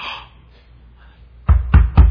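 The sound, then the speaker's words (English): Three firm, evenly spaced knocks on a door by a man, loud, following a brief stretch of quiet room noise. “Who's that guy at the door?”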